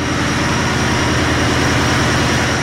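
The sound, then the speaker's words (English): Engines at Yakutat's new power plant in Alaska run at full tilt, a loud, unbroken roar with a deep throbbing rumble and a steady high whine on top. No one speaks. “Scott Newland opens the door to Yakutat's new power plant.”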